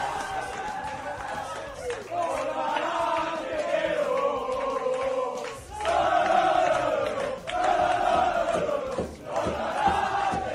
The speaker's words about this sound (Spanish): Desatada la fiesta en el vestuario, el que escucháis gritar es Bordalás, sí, Bordalás, y luego le secundan sus jugadores.